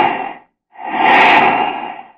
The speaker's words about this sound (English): Then comes flight time and the sound of planes, great multimotor giants. And the whoosh, whoosh, whoosh as you watch the jets go by.